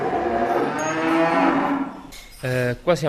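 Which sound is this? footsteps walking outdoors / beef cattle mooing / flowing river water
beef cattle mooing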